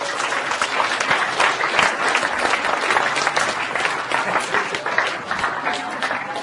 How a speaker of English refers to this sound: You've got to applaud this man. Let's give him a...